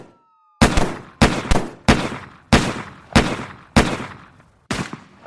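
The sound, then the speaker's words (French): A rapid series of about nine sharp, loud gunshots rings out at a steady, slightly uneven pace, each crack followed by a reverberant echo, with a faint tone audible just before. It is an exchange of gunfire between police officers and two teenagers at 11:24. “11h24, premiers échanges de coups de feu entre les policiers et les deux adolescents.”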